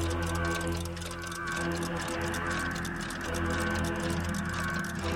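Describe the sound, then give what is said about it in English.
Many clocks of all sizes, including grandfather clocks with big brass pendulums, ticking at once in a house in a dense, overlapping patter of steady ticks, fairly loud, over a constant low humming drone. “Grandfather clocks ticking with big brass ticking pendulums ticking.”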